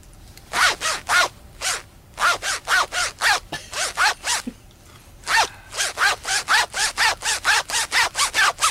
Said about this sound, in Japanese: じゃあとりあえずチャックのチャック芸久々に チャック芸、 はい、お願いします。うん、ああ、いいですね。はい、安定感な。 じゃあ何の曲でしょうか？